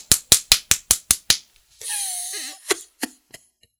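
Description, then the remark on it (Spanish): A rapid, even run of about seven sharp, crisp hand claps, followed by a short breathy, noisy burst and then three more scattered claps trailing off. “y empezamos a aplaudir así, mira.”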